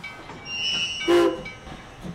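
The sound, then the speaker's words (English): A train at the railway station in Aberdeen, Scotland, in late 1912 sounds briefly, with a high whine and a short burst of hissing brakes or steam over a low rumble. No voices are heard. “At the railway station in Aberdeen, Scotland, in late 1912, a Baptist minister had just waved off his wife on a train”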